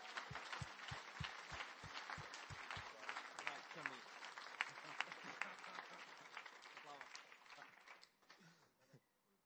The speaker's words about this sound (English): Awesome. Woohoo! Give him a clap!